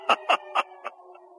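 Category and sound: human body sound, throat clearing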